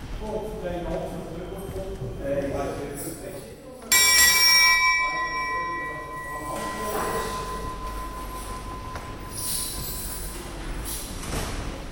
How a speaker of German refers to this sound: Jetzt ist Ruhe vor dem Sturm. Punkt 4. von 7. kommt das Glockenzeichen.